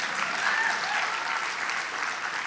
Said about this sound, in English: we believe that every child is one caring adult away from being a success story. 2 people want to clap for that?